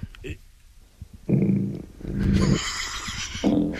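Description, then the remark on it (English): Three short, low, buzzy fart noises in a row, each a flat, droning blat of about half a second, fairly loud, over a faint hissy background. “short, sad, to the point, the ultimate Bill Belichick fart”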